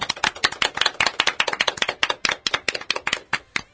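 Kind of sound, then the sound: crowd, applause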